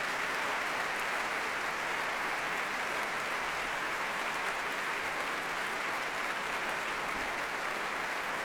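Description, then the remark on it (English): A large concert audience and the orchestra applaud and cheer as the pianist returns, a dense, continuous wash of clapping that holds at an even, fairly loud level throughout, with no one speaking over it. “Applause from the audience, cheers as well, of course, and from the orchestra.”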